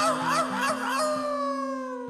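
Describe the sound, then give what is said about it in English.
A voice imitates a coyote howling at the moon, with a few wavering, rising-and-falling yips that settle into a long sustained note over a steady musical drone, fairly loud for about two seconds. “Nine buffalo, eight mustangs, seven geese honk honk, six beavers slapping, five prairie dogs, four little doggies, three prairie chickens, two wise owls, and one little coyote was howling at the moon.”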